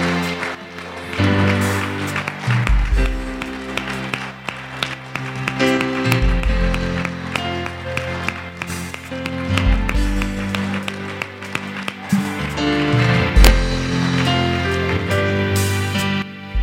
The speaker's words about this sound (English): One more time, can we applaud the Lord? Oh, thank you, Jesus.